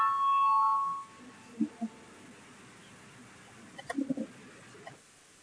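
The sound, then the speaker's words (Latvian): A parliament voting bell gives a loud, steady ringing tone for about a second before a vote, then cuts off. Only faint background noise and a few soft, low murmurs follow. “Lūdzu zvanu.”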